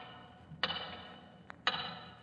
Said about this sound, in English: And as he watched the hands of the big tower clock, he could hear its ticking in his mind's ear, as clearly as though it were inches away.